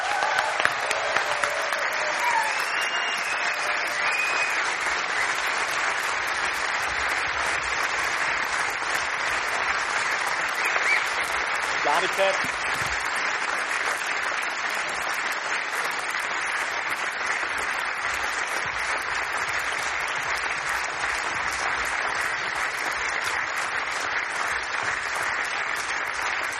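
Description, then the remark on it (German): Steady, sustained audience applause for chief editor Stefan Magnet at the '5 Jahre auf 1' event, a dense crackle of many hands clapping at an even loudness with no talking over it. “Und das ist jetzt dein gebührender Applaus, Stefan.”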